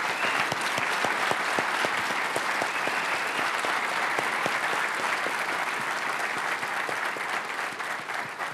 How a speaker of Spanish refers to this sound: Un fuerte aplauso, por favor, a todos esos presentadores.